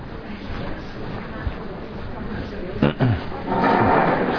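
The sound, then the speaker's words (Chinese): Chairs scrape and bump across the floor, with a couple of sharp knocks near the middle and a longer shuffling rumble toward the end, under a murmur of background voices. “对，这椅子可以随便挪动，无所谓。”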